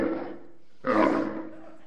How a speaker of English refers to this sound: Camels make a very unpleasant sound. It sounds something like this.